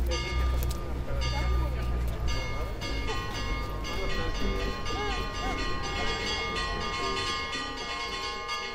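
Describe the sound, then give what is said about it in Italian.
Orthodox church bells in Russia ring continuously in an overlapping, clanging peal, loud, with steady low rumble and faint indistinct voices in the background. “Suonano le campane delle chiese ortodosse con il loro particolare ipnotico richiamo.”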